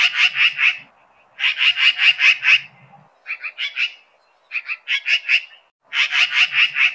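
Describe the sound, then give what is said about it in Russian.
A magpie chattering in quick, harsh rattling bursts, each a rapid string of scratchy notes, repeated several times with short pauses between. It sounds loud, with no one talking. “Как ее зовут? Сорока, сорока белобока.”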